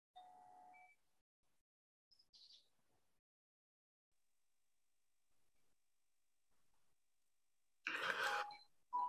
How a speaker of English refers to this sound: chimes will accompany us from time to time as the energy flows.